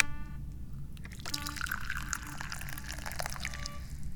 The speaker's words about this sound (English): And it is my responsibility to pour some tea right now.